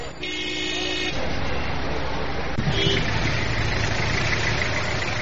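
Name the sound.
car engine idling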